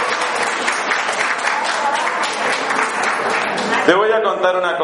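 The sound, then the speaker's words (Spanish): A largely female audience applauds with dense, steady clapping for about four seconds, a bright crackling wash that holds a fairly even loudness, before a man's voice starts speaking over it near the end. “Ese es el único aplauso que no me gusta.”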